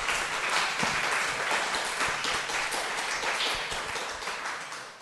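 A crowd applauds steadily for several seconds, a dense patter of many hands clapping at once, fairly loud and continuous, tapering slightly near the end.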